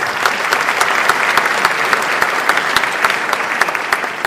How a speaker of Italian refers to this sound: Ancora un applauso al nostro